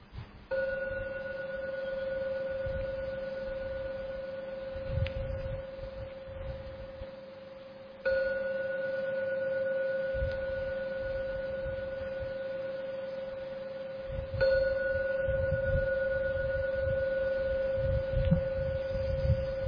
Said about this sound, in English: I shall ring the gong now 3 times. Please listen to every sound from the gong. When the last ringing vanishes, come out from your meditation.